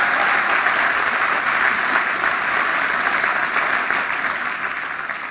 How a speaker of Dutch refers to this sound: Wat applaus. Sorry, als je 20 jongeren hebt, ja, die zeggen, wij gaan Jezus volgen.